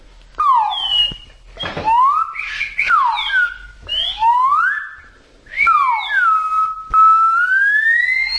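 A police-style whistle is blown in a series of loud bursts, its shrill tone sliding up and down in pitch with brief gaps between blasts, and no talking.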